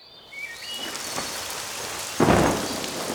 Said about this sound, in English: Oh no! It's raining! We're getting wet! Don't worry! It's just a small dark cloud.